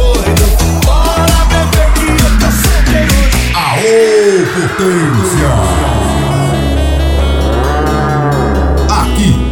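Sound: cow mooing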